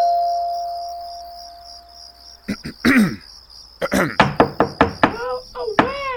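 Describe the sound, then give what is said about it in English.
A quick run of sharp knocks on a front door, several raps in rapid succession, with short vocal sounds and a steady insect-like buzz humming in the background. “Just knock on the puerta, bro.”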